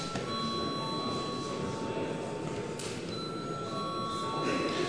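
parliament chamber bell ringing

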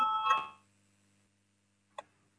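parliamentary voting bell ringing

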